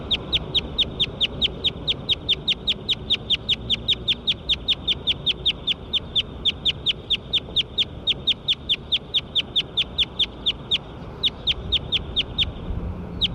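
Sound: bird calls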